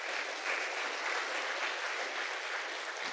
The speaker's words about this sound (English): Give all of those guys a big round of applause.